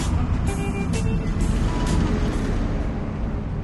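A steady, low engine-and-road rumble from a car driving, heard from inside the car and continuous throughout with no one speaking, with a few faint brief higher-pitched ticks on top.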